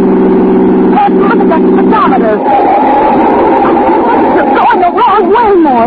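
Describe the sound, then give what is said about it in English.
A car engine drones steadily with a low, even hum as the car is driven past the city limits, while voices talk over it and the engine noise continues underneath throughout. “stop this car.”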